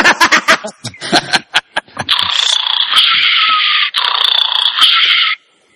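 human body sound, someone snoring

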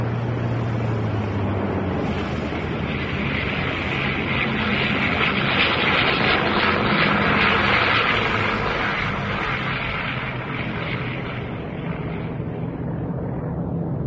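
vehicle, airplane engine hum

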